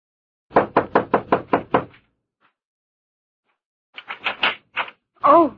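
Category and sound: household object, knocking on a door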